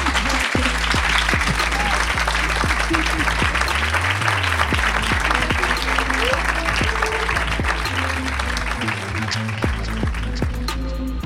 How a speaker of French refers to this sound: Applaudissez-la, s'il vous plaît.